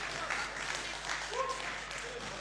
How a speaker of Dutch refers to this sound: Dames en heren, een davend applaus voor jezelf.